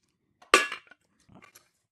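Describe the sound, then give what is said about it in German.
Ice cubes drop into a glass with one sharp, bright clink that rings briefly, followed by a few smaller clinks and a soft rattle as they settle. No one speaks. “Nee. Eiswürfel?”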